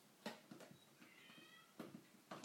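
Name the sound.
cat meowing loudly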